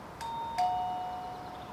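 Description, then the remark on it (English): A doorbell chimes a two-note ding-dong, the second tone slightly lower, with both notes ringing out and fading slowly. It sounds fairly soft and is heard alone, with no voices. “With that, I ring the doorbell.”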